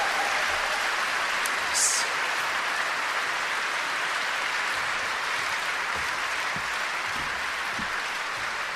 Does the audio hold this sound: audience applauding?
yes